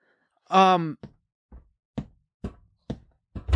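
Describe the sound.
A short voiced exhale or groan, then a man bangs his fingers on a table in a steady series of about six fairly loud knocks spaced roughly half a second apart.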